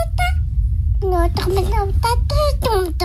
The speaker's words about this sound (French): Et donc, ont un accent dès la naissance et dès leur premier babillement. Ah, mais c'est fou, ça. Vous n'avez pas entendu des babillements en français?